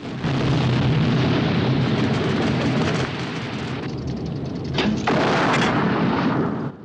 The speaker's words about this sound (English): Huge orange flames race up the slope and engulf the tanks. Craig fires another shell, puncturing a third tank, which spits burning petrol over trucks and buildings.